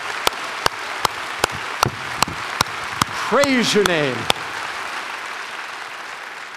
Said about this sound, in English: We can praise God with the clapping of our hands.